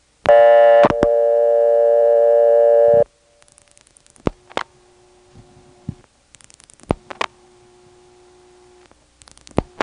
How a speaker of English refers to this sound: Here's a ringing number in Sydney.